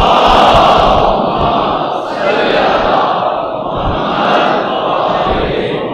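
A large crowd at a majlis recites salawat, blessings on Muhammad, together in unison, a loud, dense wash of many voices rising and falling in a couple of broad swells across the whole clip.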